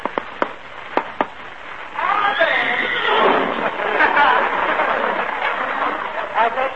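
A few sharp hoof clops ring out as Mark Anthony's horse approaches, then the horse lets out a long, loud, wavering whinny that rises and falls for several seconds.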